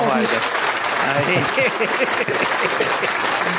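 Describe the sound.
Many people clap steadily and loudly throughout, a dense crackle of applause with voices calling out and cheering over it.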